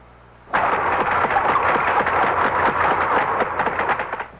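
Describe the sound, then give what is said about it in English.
A large whale's rapid clicking deep in the ocean merges into a loud, steady buzzing rattle that sounds almost like a revving motor. It starts abruptly and continues for several seconds with no voices. “That's right, a great big blubbery old whale just buzzing and clicking and grunting away deep down in the ocean.”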